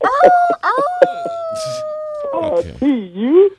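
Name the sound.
dog howling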